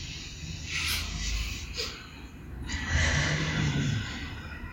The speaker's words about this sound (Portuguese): Apenas inspirem o máximo que vocês puderem. E quando chegarem no limite, ainda dá uma inspiradinha. Suspirinho.